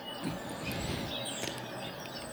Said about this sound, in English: those are unhappy bird sounds. They're just starting.